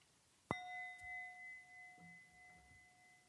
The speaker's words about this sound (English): We can just, I'm going to ring the bell. We can just start in silence, center our hearts and minds in Christ.